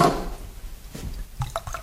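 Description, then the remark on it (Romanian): White wine and water are poured into a cup, with a brief splash at the start followed by quieter trickles, drips and a few light clinks of the vessel. “Dacă ai și puțin vin alb, bun, nu tare, aș vrea să moi un pic apă.”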